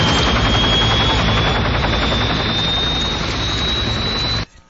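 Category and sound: vehicle, helicopters flying overhead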